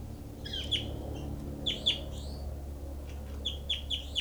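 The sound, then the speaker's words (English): Short, high chirping calls of bird 06, recorded at its cell, come in several quick bursts, some paired, over a steady low hum. The calls are moderately loud against the faint background, and no one speaks. “Recording is bird 06.”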